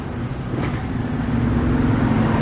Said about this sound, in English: Pedestrian crosswalk, so we'll just wait till all the cars. Sometimes they don't stop. It's a big bus. We'll just wait.